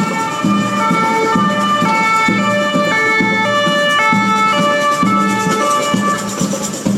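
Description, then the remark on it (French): A loud two-tone police siren wails steadily in alternating high and low notes, mixed with the rhythmic drumming of a batucada band playing in the street in Ménilmontant, with no talking. “Non, attends, il y a une batucada qui est en train de jouer, mélanger la sirène des pompiers, tu vois, c'est un bon mix quoi.”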